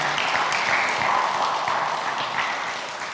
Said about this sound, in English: So let's give a round of applause again to all of our winners.